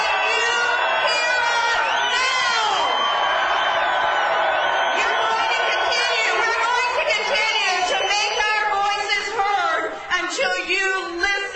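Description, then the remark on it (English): A large crowd at a protest rally at the U.S. Capitol and National Mall, voicing discontent with the federal government and the Obama administration's policies, cheers and shouts continuously, many voices overlapping in a loud, sustained roar with whoops rising above the din. “called on the crowd to make their voices heard to lawmakers.”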